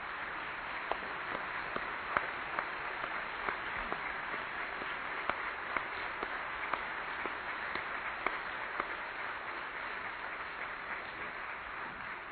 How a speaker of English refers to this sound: The applause is great.